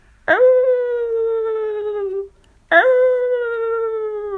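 Two long wolf howls, one after the other, each rising sharply then holding a steady, slowly falling note for about two seconds, loud with a brief gap between them; wolves howling all around at night during heavy snowfall and strong wind.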